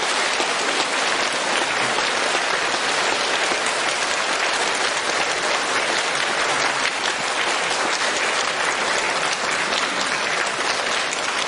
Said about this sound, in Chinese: 我请我们在座的所有朋友用最热烈的掌声请出我们尊敬的卢军红台长来给大家做开示。